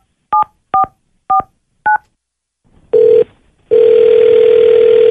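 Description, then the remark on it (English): Four quick touch-tone beeps as a number is dialed, then a short pause before a steady electronic ringing tone starts, breaks briefly, and continues loud and unbroken on the line. “Okay, let me go ahead and get him up on the phone. Let's call him right now.”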